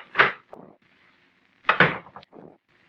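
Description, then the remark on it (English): An office door in a brand new building is opened and then shut a second or so later, each movement a solid wooden thump followed by a softer latch rattle, fairly loud, with no voices. “I stepped outside the office door and walked over to the brand new stairway of that brand new building.”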